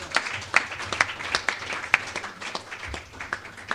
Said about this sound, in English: Okay, round of applause for our institutions.